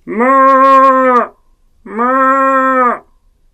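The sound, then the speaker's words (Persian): A human voice imitates a black cow mooing with two long, loud, steady calls, each lasting just over a second and separated by a short pause. “منم گاو سیاه، دارم زیر بارون خیس میشم، در رو وا کن ننه پیرزن.”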